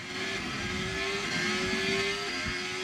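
A Formula 1 racing car engine drones with a steady, high-pitched whine during a preparation lap, climbing slightly in pitch before dipping briefly near the end, loud and continuous with no talking.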